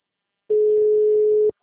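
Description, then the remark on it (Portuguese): A single steady telephone ringing tone, a flat mid-pitched electronic hum lasting about a second before cutting off, with nothing else around it. The call goes unanswered. “Ah, impossível essa mulher não poder atender telefone em nenhum momento.”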